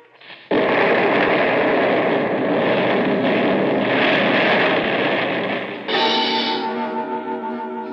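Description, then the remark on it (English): A sudden, loud explosion, a blast set off from a construction shack that blows up a mountain, erupts after a brief moment of quiet, swelling into a long, heavy roaring rumble that shifts near the end into a rattling tail with faint ringing tones. “With that explosion, my nightmare began right there in that construction shack.”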